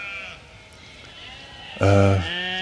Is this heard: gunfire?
no